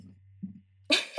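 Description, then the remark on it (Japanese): A couple of short, low, throaty burps sound, followed by a sudden harsher, breathy burst near the end over a faint steady hum. “ゲップめっちゃ出とる。”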